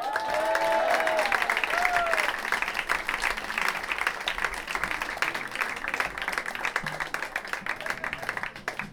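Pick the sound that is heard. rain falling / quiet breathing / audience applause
audience applause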